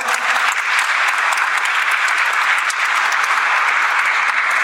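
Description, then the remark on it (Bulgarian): Sustained audience applause, a dense, steady wash of many hands clapping at a consistent loudness for several seconds, full with no voices standing out. “Моля, аплодисменти!”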